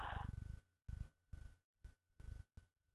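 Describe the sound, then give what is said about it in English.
A female domestic cat purrs loudly in steady, rhythmic pulses, opening with a brief meow-like cry. No one speaks. “She's been walking around at my feet, meowing and wanting up on my lap.”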